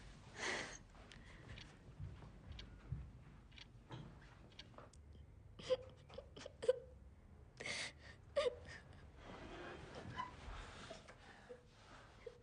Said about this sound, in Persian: نمیخواد گریه کنی.